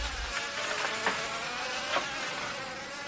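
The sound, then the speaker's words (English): Flies buzz steadily and continuously by a calm ocean, a dense droning hum with a few brief swells as individual insects pass. No voices can be heard. “Flies buzzed about everywhere.”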